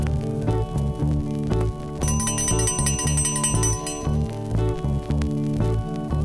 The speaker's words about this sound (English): At the sound of the bell, they will stop and all sit down.